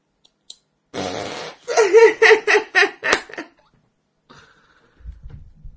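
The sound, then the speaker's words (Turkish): A single loud, buzzy fart noise made with a hand, lasting about half a second, followed right away by several rhythmic bursts of laughter from girls, then quiet. “Bak elimle osuruk sesi yapacağım, kızlar gülecek bak.”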